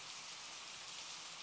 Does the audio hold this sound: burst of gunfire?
no